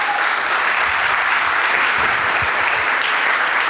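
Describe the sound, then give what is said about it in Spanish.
A church audience applauds for the Lord in a steady, dense wash of clapping that holds at an even loud level for several seconds, with no voices standing out. “Dale un fuerte aplauso al Señor por eso.”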